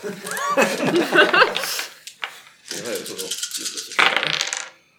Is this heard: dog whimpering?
no